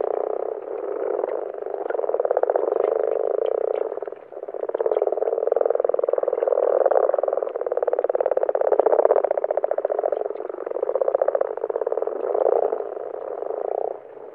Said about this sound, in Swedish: Nu lyssnar vi på bara den vanliga grodan, ett kurrande eller knarrande läte.